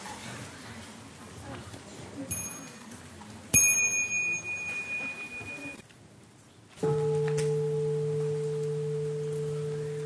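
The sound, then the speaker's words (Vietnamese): A meditation bell is struck twice: first a bright, shimmering ring that fades over a couple of seconds, then a deep, resonant tone that hums loudly and steadily to the end. “Khi các cháu nhỏ nghe chuông thì đứng dậy xả rồi đi ra ngoài.”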